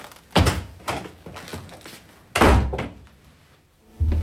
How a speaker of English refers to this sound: I tramp across the empty outer room, open the door and let it shut, staying inside. A kid's trick, but it usually works.